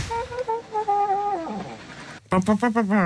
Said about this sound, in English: it's obviously an old car, and when you open the glove compartment door, it makes an amazing sound, as you'll hear in this clip. Oh, it's great. That's brilliant. Did you just play some light jazz?